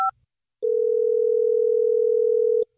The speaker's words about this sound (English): Let's see if we give her a call, if she'll pick up the phone.